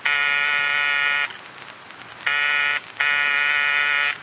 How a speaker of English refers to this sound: Oh, ring again, sweetheart. They must be home. There's a light out in the living room. Well, they could have gone off. Forgotten. Oh, go on. Buzz the buzzer.